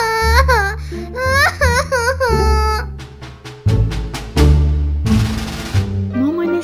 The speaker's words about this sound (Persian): ستایش دیگه خسته شده بود از اینکه هر روز و هر روز باید گریه های دخترش رو میشنید و آخرم با کلی غم و قصه ازش جدا میشد.